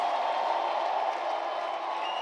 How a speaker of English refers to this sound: Someone said a powerful amen. Give him a big hand clap and a loud shout. He deserves the praise.